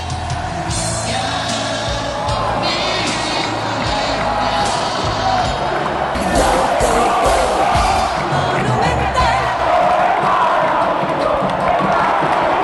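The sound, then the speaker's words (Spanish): A dense stadium crowd of Olimpia football fans roars continuously in celebration, with chanting, yelling and whoops blending into a loud, sustained wall of cheering that swells slightly midway and stays strong to the end. “Cómo no dar rienda suelta al hincha de Olimpia, su emoción, al festejo, al grito.”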